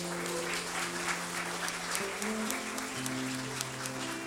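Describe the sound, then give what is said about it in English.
A church audience claps steadily for the youth campers and youth leaders going to YFN, a dense, continuous wash of applause while sustained low keyboard or organ chords hold underneath, shifting pitch a couple of times. “Clap it up one more time for them.”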